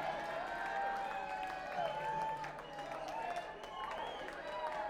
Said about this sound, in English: You know it's good when I'm up here clapping for our own shit. I'm like, yeah.